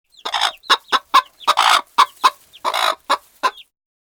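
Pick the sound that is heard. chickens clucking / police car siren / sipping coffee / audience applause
chickens clucking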